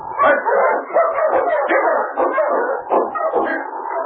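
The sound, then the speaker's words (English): A pack of sled dogs barks and yips excitedly in a dense, continuous chorus of overlapping calls with no pauses, with a few higher whimpering notes mixed in. “Take charge of your dogs”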